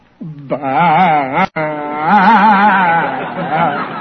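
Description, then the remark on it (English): A man's voice imitates a goat's mating call, a long wavering bleat with quavering pitch, broken by a brief pause then drawn out again, loud and alone. “Tonight you hide behind a bush and sound out a goat's mating call.”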